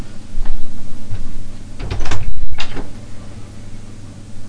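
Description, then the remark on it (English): A door is opened: a latch clicks, then a brief rattling slide and a couple of sharp knocks sound over a steady low hum, with no voices. “Because I know, hang on, I'll just open the door and see if he's like stood there waiting to come in.”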